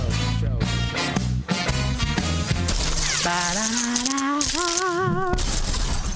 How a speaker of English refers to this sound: I love how you just throw glass at every beginning of the show.